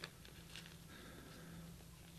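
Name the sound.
turning thin Bible pages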